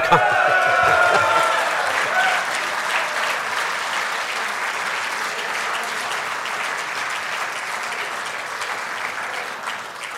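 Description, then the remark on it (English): Sustained applause of appreciation from a large crowd at a political party conference, a dense, steady clatter of many hands that starts loud with a few voices mixed in and holds for about ten seconds before easing slightly. “I think that is a round of applause, of appreciation.”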